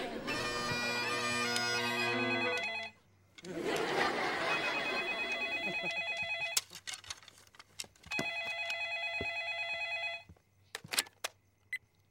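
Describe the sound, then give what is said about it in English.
A telephone rings in three long, steady bursts separated by short pauses, loud, with a few sharp clicks scattered between the rings and no one speaking. “you call Miss Briggs and keep her distracted on the phone”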